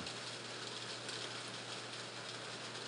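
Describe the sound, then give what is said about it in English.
Steady summer rainfall in New Mexico hisses evenly throughout, a soft, constant wash of drops with no talking, and a faint low hum sits beneath it. “It is raining. Our summer rains here in New Mexico.”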